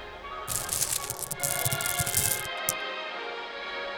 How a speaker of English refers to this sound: Step 7. Get your sack of pebbles and pour the contents into the suitcase. We want the pebbles to fill up every inch of remaining space in the suitcase so we can get it as heavy as it can be.